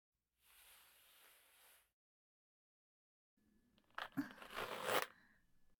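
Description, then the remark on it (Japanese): A steady rasp of a seated man's trouser zipper being pulled down, lasting about a second, followed after a pause by louder crinkly rustling and shuffling of fabric. No voices. “まず、ズボンのチャックを下ろしますよ。”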